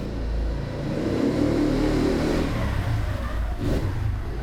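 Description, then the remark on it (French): A motorcycle engine revs loudly and steadily as it climbs a mountain, its low droning roar straining continuously throughout with no voices. “Il y a une montagne, quand la moto monte, ça, le bruit est fort. On entend le bruit de la moto.”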